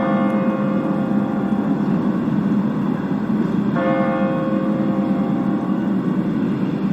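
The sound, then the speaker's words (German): The large bell of the Michel church tolls the hour at 2 p.m., at the close of a motorcyclists' church service; each deep, booming stroke blooms into a long, humming resonance that overlaps the next. Two strikes sound a few seconds apart, loud, with no voices. “Und nun die große Glocke, die Anzahl der Stunden verkündet.”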